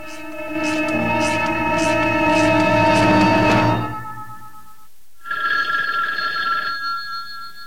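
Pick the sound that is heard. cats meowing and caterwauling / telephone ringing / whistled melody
telephone ringing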